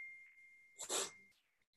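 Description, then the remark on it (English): A phone notification ding holds as a steady, thin high tone for over a second, overlapped near its end by a loud, breathy burst like a sneeze, then everything falls quiet. “I'm sorry about the dinging of my phone.”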